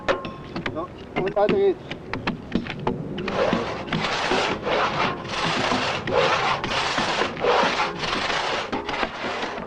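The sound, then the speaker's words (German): A few scattered wooden knocks and clicks, then steady hand sawing of a log into planks, the saw cuts meeting in the middle of the trunk: rough, rasping back-and-forth strokes in a regular rhythm, fairly loud, about a dozen strokes in a row. “Beim Zusammenführen der Sägeschnitte in der Stammmitte erweist sich der Vorteil des abnehmbaren Jochs, das unverrückbar fest aufgeklemmt werden kann.”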